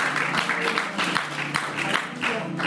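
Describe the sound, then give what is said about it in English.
An audience claps loudly and steadily as a clap offering to the Lord, a dense wash of many hands with brief louder swells, while faint vocal sounds murmur underneath. “If we're going to give the Lord a clap offering, come and give him a loud clap offering.”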